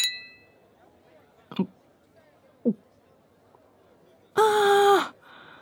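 glasses clinking

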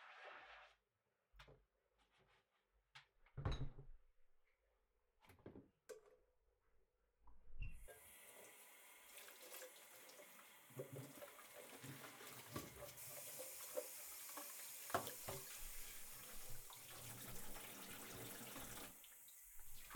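washing dishes

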